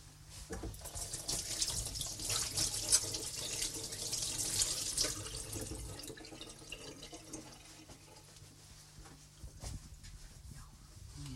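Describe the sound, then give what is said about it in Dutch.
Running tap water pours steadily for about six seconds as hands are washed during baking, a bright hissing splash that then eases into softer trickles and small splashes. “Ik ga eerst mijn handen wassen, ik zal dat in de oven steken.”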